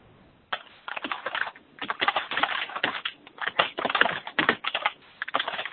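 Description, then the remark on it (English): Steady, rapid keyboard typing with dense clusters of clicks and brief pauses between bursts, heard over a phone line, with no voices. “I hear someone typing.”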